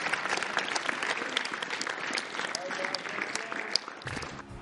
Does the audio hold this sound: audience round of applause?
yes